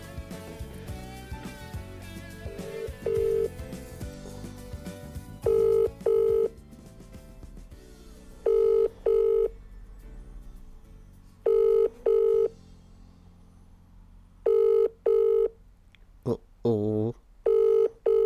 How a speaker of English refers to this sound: Now it's ringing out, which might mean she doesn't actually have a signal. Okay, so that's a bit exciting, isn't it? So that didn't connect.